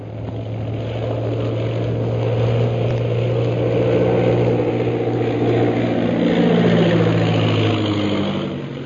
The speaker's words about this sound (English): Following the example set by the leaders, the rest of the 15 planes of the Purple Triangle Air Squadron turn back from the ordered flight and land at the camp.